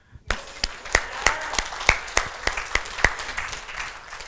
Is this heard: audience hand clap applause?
yes